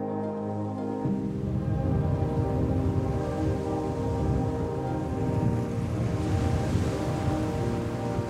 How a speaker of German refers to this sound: Das Brausen der wilden Wellen ist mittlerweile allgegenwärtig.